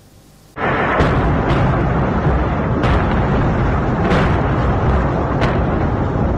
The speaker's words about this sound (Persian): موشک باران بندر لازقیه در غرب سوریه بامداد سه‌شنبه. دیدبان حقوق بشر سوریه میگوید که این حمله میدان کانتینرها را هدف قرار داده. بنابر این گزارش این موشک‌ها توسط نیروهای اسرائیلی از دریای مدیترانه شلیک شده بودند.